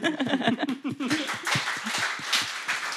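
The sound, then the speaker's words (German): A small group applauds with steady, overlapping claps that swell into a dense patter, while voiced laughter and chuckling run through the first second. “10 Applaus kann es auch, das hört man, ne?”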